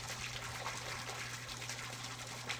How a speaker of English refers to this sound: Neither of us said anything, but just sat there, listening to the sound of the waterfall.